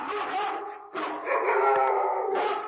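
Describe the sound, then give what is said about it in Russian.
Several village dogs from all the yards bark and howl together at a bear in a loud, sustained chorus, with overlapping yelps and drawn-out howls, briefly dipping before swelling again. “А собаки почуяли медведя и бросились на него. Со всех дворов бегут, лают.”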